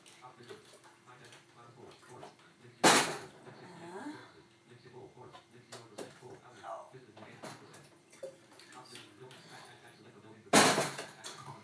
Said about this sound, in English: Enough water in the kettle. And is it enough kettle in the water? Whoops.